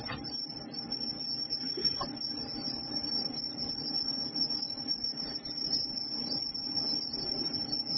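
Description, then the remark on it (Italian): A steady, muffled hiss left over after heavy filtering, constant and fairly quiet, with the top end cut away and a faint thin whistle-like tone running underneath. No speech. “Questo toglie proprio tutto, eh? Alti, bassi, parole, lascia solo questo fruscio.”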